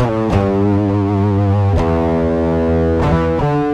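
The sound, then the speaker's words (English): Electric guitar through a mild distortion pedal, tone at noon and output just over noon, on the first of three gain positions, lets a few chords ring out one after another with light, gritty overdrive, each struck sharply and left to sustain. It is loud, with no talking. “So it's not a lot of distortion, because I'm you know, we're about 3/4 of the way up here.”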